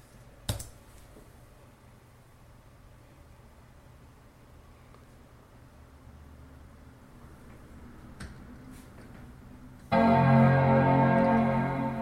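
A single sharp click of an Enter key being pressed on a computer keyboard to bring the computer back up, followed by a long stretch of low hum, a faint second click, then a loud sustained tonal chime near the end.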